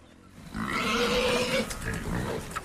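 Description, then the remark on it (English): Free-range pigs, boars devouring fallen fruit and vegetables on a farm, grunt and squeal in a continuous, harsh chorus of overlapping calls, loud and sustained with no talking. “Boars devour fallen fruit and vegetables on Brightside Farm.”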